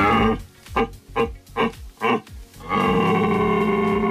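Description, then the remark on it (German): A man's voice imitates an angry rutting stag: about five short, deep grunts in a steady rhythm, then a long, loud, harmonically rich roar. The call has no speech. “Den Ärger hört man dann nur auch ziemlich deutlich in den Rufen von den Hirschen,”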